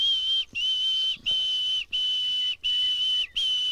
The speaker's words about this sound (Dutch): Een nachtegaal zingt veel luider nog. Oh, hey, daar gaat hij.